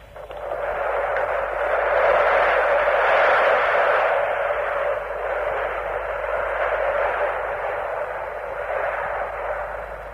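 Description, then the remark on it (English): Concorde's jet engines roar loudly as it takes off from Runway 28 at London's Heathrow Airport, about half a mile away, on its inaugural flight to Bahrain, climbing at about 250 knots. It is a dense, steady rushing thunder that swells early on and then holds, with a muffled, narrow-band quality and no voices. “Sound of Britain entering the supersonic age, and she is noisy.”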